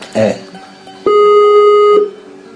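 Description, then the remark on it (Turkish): A single telephone ringing tone, a steady mid-pitched buzz lasting about a second, sounds loudly after a brief snatch of voice at the start, as a program calls a guest by phone. “Evet çalıyor.”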